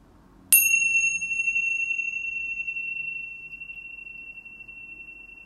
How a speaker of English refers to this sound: I made you this 10-minute Club Med sound meditation. I will ring a chime at the beginning, at the end.